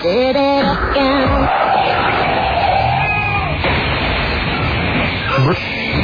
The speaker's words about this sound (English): It's your sounder. How did you not know when it ended? You made this sounder.